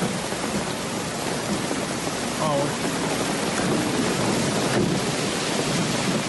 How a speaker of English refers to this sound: This is real rain. It's just pouring. That looks like real rain to you? I think. Right now it does, but let me see it when it starts.